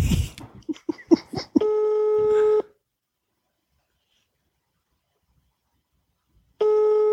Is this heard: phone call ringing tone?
yes